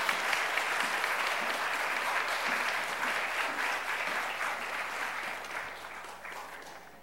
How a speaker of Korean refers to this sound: 우리 박수로 맞이하겠습니다.